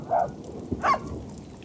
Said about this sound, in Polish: No i zobacz, znowu się rozpadało. Deszcz nam wejdzie do radia. I wiatr? I wiatr, tak, z wiatrem. Ale zobacz, wszyscy są szczęśliwi naokoło, że pada.